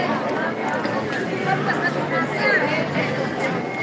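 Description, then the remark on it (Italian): Piazza del Nettuno ambience: a dense, steady hubbub of many overlapping voices, including a group of Japanese tourists and two women chatting, with a puffing bus rumbling underneath, a car horn, and distant music from a street artist playing guitar and singing. “Gruppo di giapponesi in vacanza. Sbuffo dell'autobus. Clacson. Musica in lontananza da un artista di strada.”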